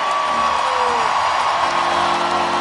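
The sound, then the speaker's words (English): A huge crowd of Pittsburgh hockey fans at PPG Paints Arena on a Saturday night roars in sustained cheering and whooping for a Penguins player's last period with the team, a dense, loud wall of applause and shouts that carries on without a break, a standing ovation. “Listen to that crowd going Can nuts. Can you believe that crowd?”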